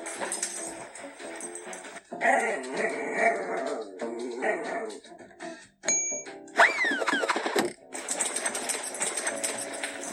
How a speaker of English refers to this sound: So as you can hear, the dog is running around playing with the ball.